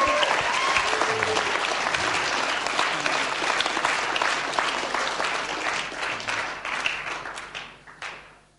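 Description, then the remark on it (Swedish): An audience applauds to give a hand to the Lord, with steady, dense clapping that holds strong for several seconds, then gradually thins out and fades toward the end. Faint voices mix in beneath the applause. “Let's just give a hand to the Lord again.”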